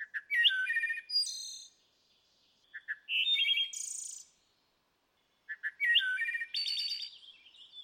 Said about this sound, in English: You also have the wood thrush from the east. Let's listen. It's one of the most iconic bird songs, this classic flute-like song, and it resonates through the forest and is just absolutely phenomenal to listen to.